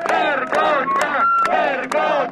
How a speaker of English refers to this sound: Shouting shame, shame, demonstrators denounce the many legal proceedings that will be put under the guillotine, such as a deadly 2009 train accident, substandard buildings that killed university students in the Aquila earthquake, and many more.